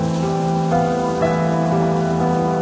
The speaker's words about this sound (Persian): باران که می بارد بغض گلویم را می گیرد.